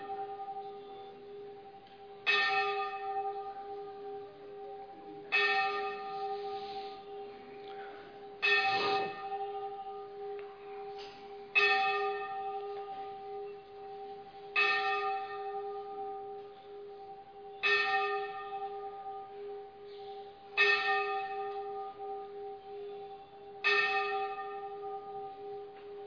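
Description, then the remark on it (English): A deep, resonant bell tolls about eight times at a slow, steady pace, each strike ringing out and fading before the next. It is loud, with no talking. “I take full responsibility for this bell-ringing interruption.”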